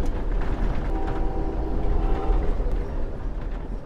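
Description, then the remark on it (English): A train on the Pacific Coast Railway rumbles steadily along the rails, a dense low roar with a faint metallic squeal rising briefly in the middle, loud throughout with no one speaking. “We merely pass by in the train along the Pacific Coast Railway, on our way to somewhere else.”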